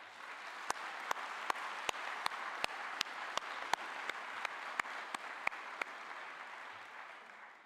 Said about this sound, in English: So before I talk about Paul a little bit more, can we just give Pastor Ken Smith and our staff a round of applause?